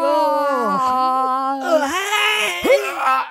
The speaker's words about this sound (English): Yawning. You're going to make me yawn. Now I'm yawning.